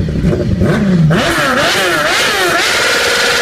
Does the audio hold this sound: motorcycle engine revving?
yes